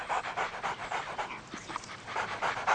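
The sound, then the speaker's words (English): Two dogs panting rapidly and steadily, a quick rhythmic train of breathy huffs with no talking over it, plus a couple of faint higher squeaks mixed in, as a dog walker takes them to the dog run. “You have two dogs?”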